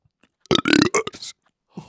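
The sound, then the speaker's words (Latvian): A loud, croaky burp rolls out in a few throaty pulses lasting nearly a second, followed after a pause by the start of another low burp. “bet tā, man rāda, ka man vajag atraugāties.”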